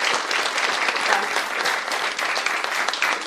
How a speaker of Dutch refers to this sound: En alle mensen, een applaus voor al die kinderen die echt allemaal ook zo goed hebben meegedaan. Geweldig.